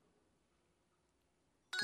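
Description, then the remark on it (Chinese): A near-silent stretch ends with a sudden, loud electronic chime from the WeChat Shake feature on a phone, signaling that a match was found after shaking the phone. The bright tone starts abruptly near the end and is cut off. “好，现在呢它的这个大家听到这个提示音就说明已经搜索到了。”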